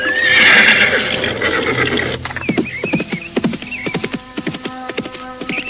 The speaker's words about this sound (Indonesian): Restu Singgih dengan cepatnya melarikan kudanya menuju ke tempat Ki Buyut Manguntapa untuk mengobati Nilam Cahya yang terkena selembar sisik ular Nini Pelet yang sangat berbahaya.